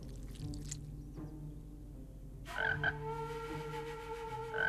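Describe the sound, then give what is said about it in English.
A frog, Beans, sitting on the edge of a counter, croaks repeatedly in low, throaty pulses as its rubbery chin puffs in and out, fairly loud, joined midway by a brighter, buzzy trilling call that continues to the end. “As he and Tom lock gazes, the frog's rubbery chin puffs in and out.”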